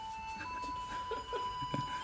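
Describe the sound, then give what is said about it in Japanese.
Mayor Ishikawa of Niihama's mobile phone ringtone plays the hometown song "Furusato" as a simple electronic melody, a thin sustained tone with a few lower notes chiming in, fairly quiet and with no voices over it. “懐かしいふるさとの音楽が鳴っております。これは石川市長の携帯の着信音ですか。”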